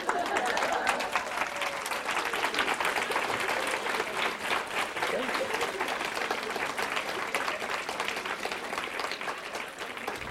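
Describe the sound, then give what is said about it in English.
Sustained applause from an audience of knitters, a dense crackle of many hands clapping at a steady, loud level throughout, with faint crowd murmur mixed in. “Okay, don't do the clapping.”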